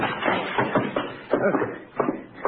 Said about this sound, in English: The door's locked. Where's the key? I don't know. Mrs. Dunn looks after the keys. Well, there's no time. Excuse me while I try to ruin a library door.